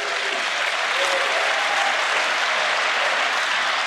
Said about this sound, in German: So hat sich das angehört, als das EU-Parlament Ende November den Klimanotstand ausgerufen hat. Und wie man schon an dem Applaus hört, haben sich die meisten oder viele der Abgeordneten zumindest darüber gefreut.